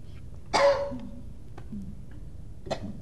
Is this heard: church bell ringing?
no